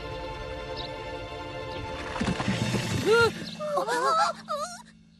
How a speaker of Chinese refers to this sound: 你的声音把山石震下来了。